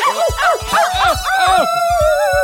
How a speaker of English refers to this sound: These crazy dogs are making me so mad!